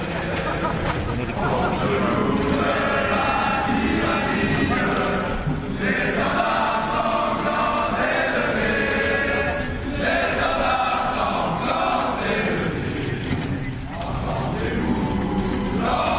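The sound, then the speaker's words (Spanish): A large group of French football players sings the French national anthem, La Marseillaise, together without instruments at a reception at the Élysée, loud and a bit ragged, the chorus carrying continuously with crowd noise mixed in throughout. “Allí los futbolistas, con más emoción e interés que buena voz, se atrevieron a cantar a capela el himno francés, la Marsellesa.”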